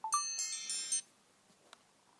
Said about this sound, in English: Oh, I know what I did. I set a little alarm because I don't want to have to stop talking and always check the... check, but I thought we were starting at 5, so I set it for 6.